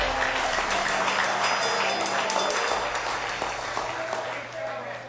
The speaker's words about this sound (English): You clapped me right into it.